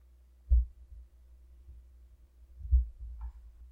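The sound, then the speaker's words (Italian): A slow, muffled heartbeat: deep low thumps in paired beats, about two seconds apart, soft and steady with a faint hum underneath and no voices. “E da quel battito sentiamo espandersi un'onda.”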